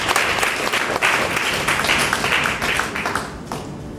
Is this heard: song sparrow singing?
no